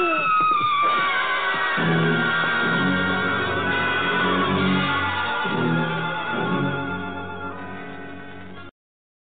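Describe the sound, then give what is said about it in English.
A loud, shrill scream held for nearly nine seconds, its pitch wavering and siren-like, with a rumbling undertone beneath, before it cuts off abruptly. “Ha, good to end with a scream.”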